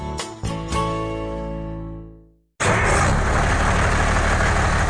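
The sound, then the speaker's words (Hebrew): A ringing, bell-like tone fades away, then after a moment of silence an old diesel engine rumbles into a loud, steady idle, with no one talking. “דיזל ישן מקצר חיים.”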